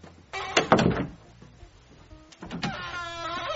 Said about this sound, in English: This door is so squeaky.